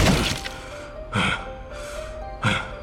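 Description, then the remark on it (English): A locked, glass-fronted, metal-framed double door is kicked open with three heavy blows about a second apart, each a sharp crashing impact with a brief rattle, and no voices. “He kicked it open and lurched through it.”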